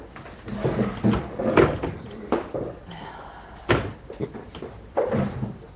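A chair is shifted around as someone switches to another chair, giving a series of irregular wooden knocks and bumps over several seconds, with brief quiet gaps between them and no clear talking.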